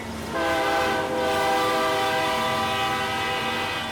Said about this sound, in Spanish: Me acerqué un poco más a las vías, muy lentamente. Y por fin, logré mirar el tren. Lo vi de cerca.